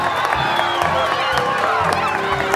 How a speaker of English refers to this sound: Their wild cries of welcome all but drowned out the official welcoming fanfare.